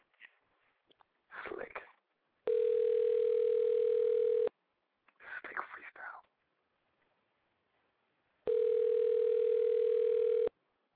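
An outgoing phone call rings twice without being answered, then reaches a Sprint voicemail message; each ring is a steady, buzzy two-second tone separated by a long pause. Soft whispering or breathy murmurs fill the gaps before and between the rings.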